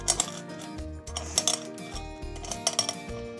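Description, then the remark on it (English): Peppercorns crunching and clinking as they sauté in hot oil on a stove, in short, sharp bursts that come in small irregular clusters, heard over a steady, sustained tonal hum in the background. “Hear them crunching?”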